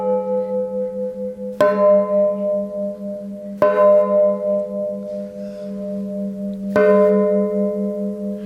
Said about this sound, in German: Für Margit Marten ist der Glockenklang ein Heimatgefühl. Wir lieben unsere Glocken alle sehr.